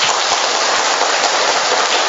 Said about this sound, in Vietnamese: Một tràng pháo tay thật lớn thưa các bạn.